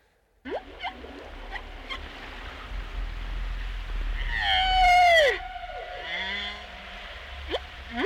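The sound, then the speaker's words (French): Whale calls underwater over a drop-off where the sea floor descends to 5,000 metres: scattered short upsweeping squeaks, then a loud drawn-out moaning whistle that bends downward with rich overtones, each call trailing into a long, booming echo over a low rumble. “là, on a un son qui réverbère exactement comme si vous étiez dans une cathédrale”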